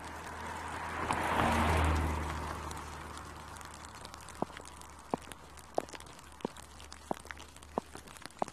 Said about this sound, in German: Überquere gleich die Straße und steuere den gelben Torbogen an. Achtung, Auto!